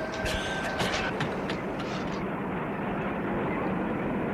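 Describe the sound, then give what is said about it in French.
A heavy truck engine rumbles steadily and loudly, with brief clanks and hissing bursts during the first two seconds before settling into a constant, even drone, as the truck gets under way to leave a work site. “Il entend enfin le camion se mettre en route.”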